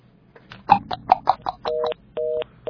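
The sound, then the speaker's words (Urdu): A quick run of short telephone keypad beeps is dialed as a call is placed again, followed by a few steady two-tone ringing signals, each lasting about half a second with brief gaps between them. “چلے میں دوبارہ کال ملاتی ہوں”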